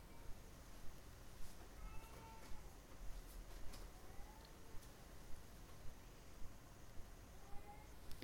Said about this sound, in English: Someone should attend to the cat. Get her out.